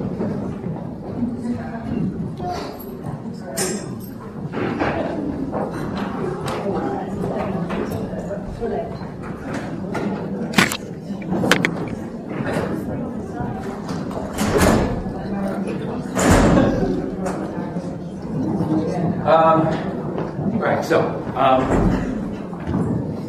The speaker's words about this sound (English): What about the doors? Shall we close the doors? Yes.